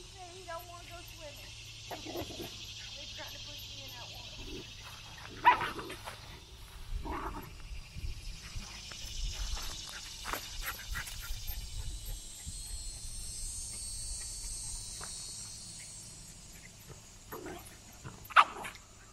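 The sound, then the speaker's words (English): Dogs growling and yipping as they play-wrestle on a farm by a pond on a fine day, intermittent snarly bursts and a few sharper barks over a steady outdoor hiss, with one loud yelp near the end. “And the dog's having a little wrestling match down there.”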